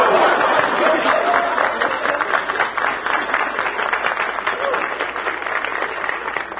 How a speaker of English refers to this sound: That loud and vociferous applause comes from the Junior Chamber of Commerce. Good-looking young fellas.